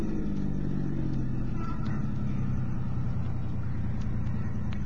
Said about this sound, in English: All right, now pull up over there. Keep the motor running.